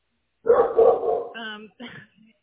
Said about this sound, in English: Fortunately, now is not a good time because my dog will not stop barking. So maybe you can call me back. Yeah, I can hear him.